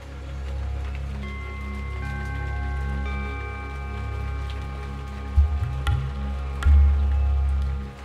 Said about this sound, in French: La pluie, qui est devenue très violente, nous contraint à rester un temps assez long dans cette chapelle, avec le gardien silencieux qui nous sourit, et avec le Dieu. Je me perds dans la contemplation des gouttes d'eau qui rebondissent sur la pierre